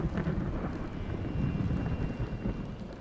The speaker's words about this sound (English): The wind is howling and the weather is bad.